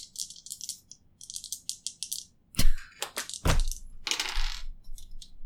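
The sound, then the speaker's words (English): Dice rattle crisply in a hand or cup for a couple of seconds, then tumble and clatter onto a hard surface in several loud knocks before settling, rolled for a strength roll in a tabletop game. “That is unfortunate because my dice have gone cold.”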